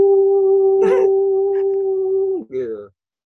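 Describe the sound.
A voice imitates a putu cake seller's steam whistle with one long, steady, loud whistling tone that holds for over two seconds, then drops off into a short wavering tail.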